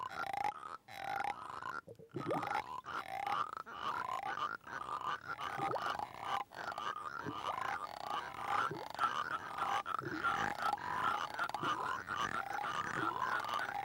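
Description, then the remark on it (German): Rasping, ratchety frog croaks made by scraping a fine French 'Cognac frog' figurine as a sound-effects technique, a steady run of rapid clicky rattles with a mid-pitched buzz, fairly loud and continuous, with no talking. “So, und hier haben wir noch einen besonderen Gast, ganz ein feiner französischer Cognac-Frosch.”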